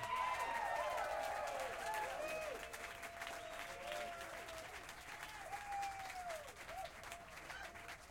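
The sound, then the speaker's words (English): A crowd claps steadily in a dense, sustained burst of applause that gradually eases off, with faint whoops and scattered voices rising above the clapping. “A warm round of applause, if there is any other kind, for Alfonso Johnson.”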